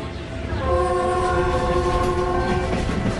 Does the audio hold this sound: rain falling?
no